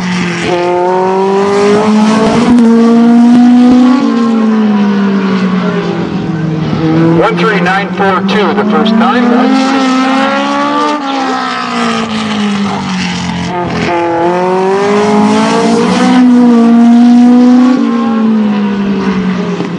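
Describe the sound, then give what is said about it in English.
The Nissan-powered number 45 race car, sponsored by the Idaho Army National Guard and driven by Spokane driver Tony Berry, roars loudly for the whole stretch, its pitch climbing and dropping repeatedly as the driver works through the gears and throttle. “Nissan Power in the car, sponsored by the Idaho Army National Guard. Tony Berry, car number 45.”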